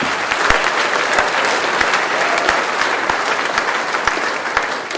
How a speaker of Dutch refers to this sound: Er is een studiescommissie die gisteren een prachtig programma heeft gemaakt. Die vandaag de zaal heeft klaargemaakt. Applaus voor de studiescommissie.